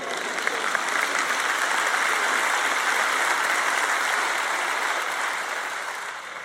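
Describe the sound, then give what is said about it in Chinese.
A crowd breaks into sustained applause, a dense, even wash of many hands clapping at once that holds steady for several seconds before easing off slightly at the end. No one speaks. “我希望你能记住其中哪怕两件你所鼓掌的事。”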